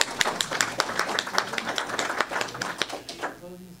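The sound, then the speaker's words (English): An audience applauds the candidates with a dense, steady patter of many hands clapping at moderate loudness, then the clapping thins out and fades in the final moment. “Well, how about a round of applause for our amazing candidates?”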